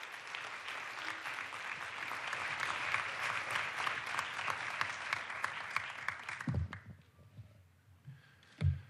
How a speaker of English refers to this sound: Ambassador Ash, please. Let's welcome him, please, with a big round of applause.